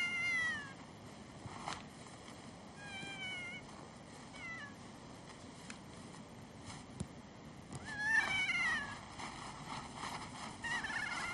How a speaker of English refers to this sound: And, of course, we have the most alpine parrot in the world. Can I get some sound on that one? Here we are.